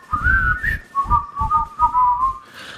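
A bright whistled melody carries a catchy tune over a thumping rhythmic beat, the notes gliding and wavering as the short phrase plays through, close and fairly loud.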